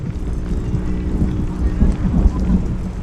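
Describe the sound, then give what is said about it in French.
A heavy daily afternoon rain downpour at 4 p.m., softening the mountain, pours down in a steady, dense roar with a deep low rumble underneath, fairly loud, swelling slightly midway without any break. “Il est 16 heures, c'est l'heure de la verse quotidienne.”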